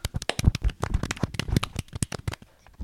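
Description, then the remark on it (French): A small group applauds themselves after a quiz, clapping for about three seconds, a quick, irregular patter of sharp hand claps that stays fairly steady, then thins out toward the end. No one speaks over it. “On peut s'applaudir.”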